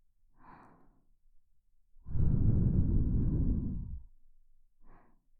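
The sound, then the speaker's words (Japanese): A soft, close breath, then a long, loud, airy exhale lasting about two seconds, like a heavy sigh, and a final faint breath. No talking. “陶器は人間の吐息呼吸音まで忠実に再現しております。”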